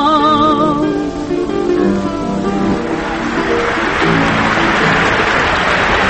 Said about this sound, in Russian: Аплодисменты, которые вы сейчас слышали, прозвучали во время выступления выдающейся исполнительницы старинных русских романсов